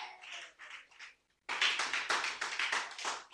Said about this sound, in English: Clap for Jesus.